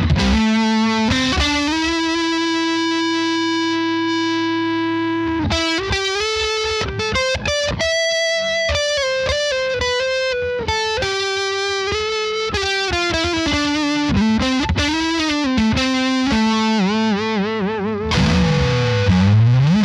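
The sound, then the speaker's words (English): An electric guitar on its neck pickup plays sustained, singing lead lines through a gritty overdrive pedal stacked with a short delay, bending and sliding between held notes, loud, with no talking. “I mean, it's still a very specific flavor of distortion. Yeah. Of grit, of dirt, whatever you want to call it.”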